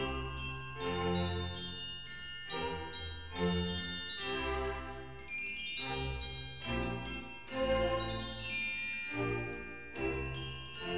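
A glockenspiel plays a delicate, tinkling melody of bright, ringing notes in a steady rhythm, with a soft accompaniment underneath and no voices.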